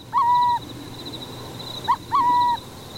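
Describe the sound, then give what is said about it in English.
Burrowing owl calls at a decommissioned military site in Oregon, dotted with 1,000 concrete bunkers once used to store nerve gas: two clear, mid-pitched hoots, each a short note followed by a longer drawn-out one, repeated twice over a faint steady high whine. No one speaks. “But the site has taken on a new life as a luxury subdivision for burrowing owls.”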